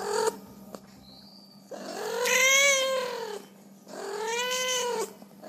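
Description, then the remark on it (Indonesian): Two long, drawn-out meows from street cats in Indonesia, each rising and falling in pitch with a whiny, pleading tone, separated by a short pause with faint background noise. “Minggu 9 Februari adalah hari bahagia bagi puluhan sampai ratusan kucing jalanan se-Indonesia.”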